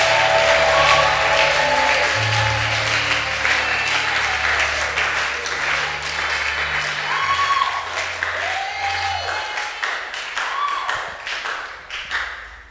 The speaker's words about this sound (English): If you do, show that to God in your shout and your clap. Hallelujah! Come on, show that to God in your shout and in your clap.